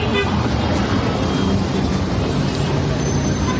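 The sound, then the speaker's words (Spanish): An old diesel car engine runs steadily, a loud, rough clattering rumble that holds an even level for the whole stretch, with no voices over it. “Y todo, como digo, con el objetivo de que cada vez sea menos común escuchar esto.”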